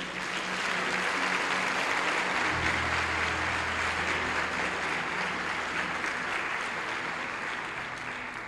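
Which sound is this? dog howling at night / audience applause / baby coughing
audience applause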